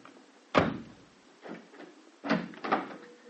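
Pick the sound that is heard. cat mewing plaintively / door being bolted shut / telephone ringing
door being bolted shut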